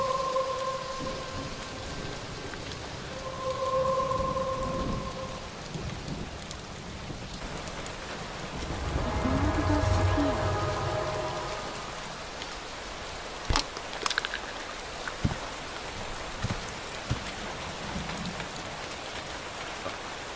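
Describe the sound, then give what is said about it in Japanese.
Steady heavy rain hisses throughout while a deep roll of thunder swells in the middle, followed by a few sharp cracks and spatters; no one speaks. “今日のように雷雨のひどい日ほど美しく輝く秘宝、ゴールドスフィア。”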